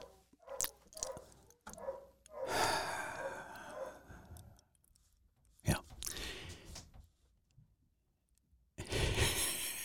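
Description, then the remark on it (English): The speaker's dogs bark in irregular bursts, a few sharp yaps followed by longer rough outbursts, fairly faint against a quiet background. “Oh, now my dogs are barking.”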